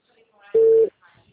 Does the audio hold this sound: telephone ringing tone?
yes